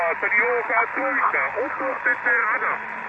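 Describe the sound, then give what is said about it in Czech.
Continuous amateur-radio band interference, the constant baseline noise at S7 received in a house: a steady, narrow hiss of static with garbled, warbling voice-like fragments drifting through it, holding at a moderate level for the whole stretch. “Tady mám základní rušení na tom bandu S7, jo, ten, to je vždycky, nevím, odkud se to bere tady v tom baráku.”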